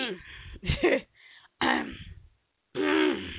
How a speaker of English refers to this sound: Clear my throat. Let me clear my throat. Let me clear my throat.